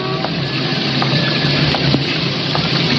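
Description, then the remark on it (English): Steady, dense afternoon rain hisses without pause in Lower Manhattan, with water rushing and gushing loudly in streams from the drain pipes and gutters of old brownstone houses, scattered drips spattering off awnings and splashes ticking through the wash of sound. No voices. “It was raining that afternoon.”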